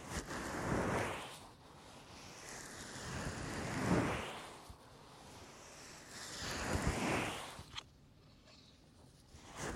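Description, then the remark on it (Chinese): Steady rain hisses in a broad, soft wash that swells and fades every few seconds, with no voices, moderately loud throughout, accompanying a massage. “伴随着雨声的按摩，应该会让先生更好睡的。”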